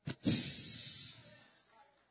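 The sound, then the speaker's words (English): A voice makes a long, steady hissing sound like air escaping from a balloon, starting with a short puff and then tapering off over about a second and a half, fairly loud. “It's amazing what God can do if you just let the air out.”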